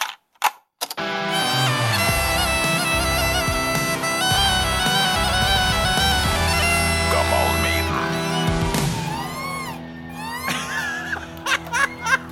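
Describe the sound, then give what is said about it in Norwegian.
An iPhone ringtone melody and a bagpipe play a jingle together as a duet: a loud, continuous reedy drone with bright, stacked tones, running steadily for about eleven seconds before a few fluttering high notes close it out. “Det her iPhone og sekkepipe duett.”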